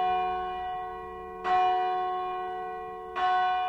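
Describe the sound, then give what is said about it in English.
Church bells of the Church of St. Giles, Chollerton, ring for Sunday services with two clear strikes roughly two seconds apart, each leaving a rich, humming resonance that lingers and slowly fades between them. No voices are heard. “the Church of St. Giles Chollerton is ringing its bells for Sunday services.”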